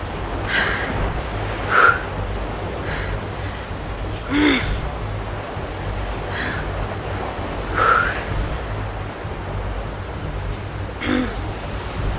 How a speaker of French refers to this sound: les vagues sont d'une houle de 6 mètres de haut, comme deux étages d'un immeuble. La mer est violente.